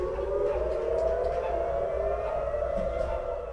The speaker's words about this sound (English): Just about 3 hours after I met the president, Iran launched more missiles at Israel. Here's what the air raid sirens sounded like.